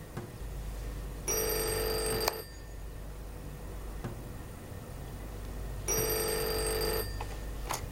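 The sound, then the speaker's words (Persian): A telephone rings twice, each ring a bright electronic burst lasting about a second, separated by a few seconds of quiet room tone with a low hum underneath. “تلفن”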